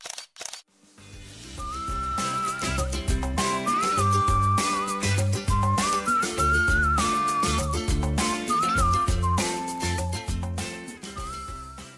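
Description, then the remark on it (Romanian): Someone whistles a lively tune over a steady musical backing, the bright melody gliding and sustaining clearly on top for about ten seconds, with no talking. “Dacă fluierăm, înseamnă că e rost de drumeție.”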